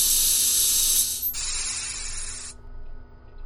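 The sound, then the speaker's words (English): A docking airlock at the Boldabar Space Station pressurizes to neutral: a loud, bright rush of hissing air blasts for about a second, drops to a slightly softer steady hiss, then cuts off abruptly, leaving a low mechanical hum underneath. “Awaiting pressurization to neutral.”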